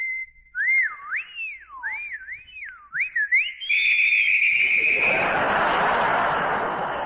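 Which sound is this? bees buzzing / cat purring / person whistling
person whistling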